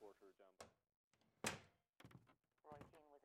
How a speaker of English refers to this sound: I know by the way he bangs the door.